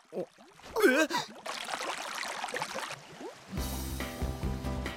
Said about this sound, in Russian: Что происходит? Почему из-под земли выходит горячая вода? Земля гневается на нас! Боюсь, боюсь! Мы все умрем! Глупости! Это всего лишь горячий источник. Источник? Природное явление, при котором на поверхность земли вытекает горячая вода.